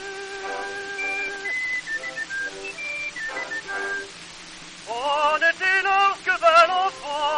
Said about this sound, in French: et qui siffle, siffle en marchant, les oiseaux découvrent dans les branches.